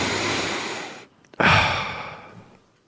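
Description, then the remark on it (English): A person makes an exaggerated, breathy sniffing noise as a clue in a guessing game about what is being sniffed: a long airy inhale, a brief pause, then a sharp, loud rush of breath that slowly fades. No one speaks. “So I've got my eyes closed and you're going to make the sniffing noise and I've got to guess what thing you might be sniffing.”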